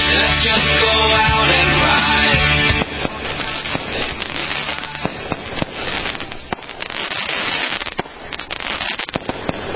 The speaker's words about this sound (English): Sound of fireworks. Boy, there's nothing like it, is there? Hear that? Those are the Special America Tonight fireworks. We spared no expense.